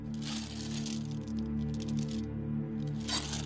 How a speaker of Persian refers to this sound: چون میخواستم از خونه برم بیرون برای بهموت آب و غذا ریختم.